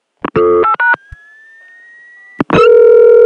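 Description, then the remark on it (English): A thin tone rises slowly in pitch on a telephone line while connected to the CDPR, where other customers' dialing can be heard, framed by loud bursts of harsh tones before and a steady buzzy line tone after. “There's rotary dialing, there's touch tones, and there's also this mysterious squeal or tone that tends to sort of change pitch.”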